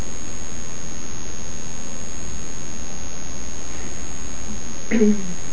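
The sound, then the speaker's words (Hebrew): A tractor engine runs steadily, a constant loud drone filling the whole stretch, with a brief faint vocal sound near the end. “צלילים של טרקטור.”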